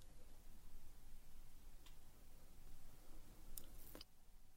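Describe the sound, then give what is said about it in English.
A clock ticks faintly, a handful of sharp, dry clicks spaced unevenly over a low, steady background rumble, with no voices. “Silent, ticking minutes stretched by until finally the oppression lifted, until I could breathe normally once again.”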